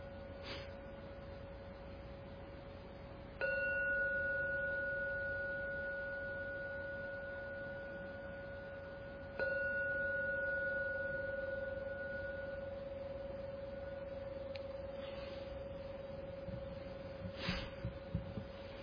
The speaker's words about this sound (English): I will now ring the gong 3 times. Please listen to every sound from the gong. The last sound vanishes, then come out and open your eyes.